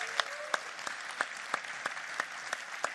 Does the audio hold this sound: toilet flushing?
no